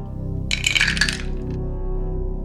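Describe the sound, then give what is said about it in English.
Three dice rattle and clatter across a hard tabletop in one brief, bright burst, settling quickly on three fives against a low, steady background hum. “All right, so you get 3 total dice.”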